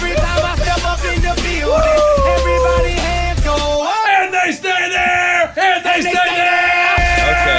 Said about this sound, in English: A lot of yelling. Woo! We had a long night last night. A lot of yelling.